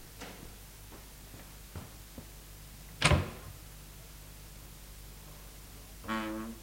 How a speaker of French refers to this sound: Le lendemain matin, il a été réveillé par le bruit de la porte de la chambre qui s'entrebâillait.